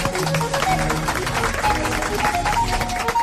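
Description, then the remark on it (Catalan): A studio audience on the RAC1 programme with Marc Giró breaks into sustained, dense applause that holds steady at a fairly loud level for the whole stretch, with a few voices and cheers mixed into the clapping. “un aplaudiment, senyores i senyors”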